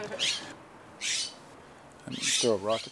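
A garden bird scolds in three harsh, raspy bursts, close and fairly loud, with a brief lower tonal call mixed into the last one.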